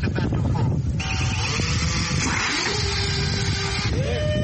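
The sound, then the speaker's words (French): A medical delivery drone in Rwanda carrying a parcel taking off: a steady, loud mechanical roar with a whirring motor tone that climbs in pitch and holds, then rises again near the end. “Avant tout décollage, l'équipe d'ingénieurs travaille en synchro pour assurer un bon parcours au drone avec son colis.”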